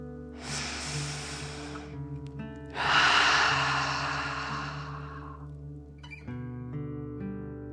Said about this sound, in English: Again, breathe in through your nose and out through your mouth, pretending you are breathing fire. Deep breath in and out.